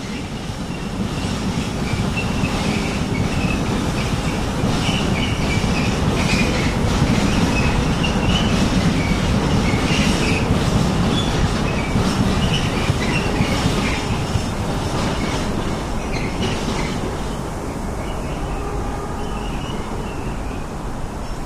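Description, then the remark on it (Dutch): A train rumbles past on the tracks in a steady, loud roar, with rhythmic clickety-clack from the wheels and faint high metallic squeals, easing slightly toward the end. “So would you like me, now that we're a bit away from the trains, maybe say something about, introduce myself.”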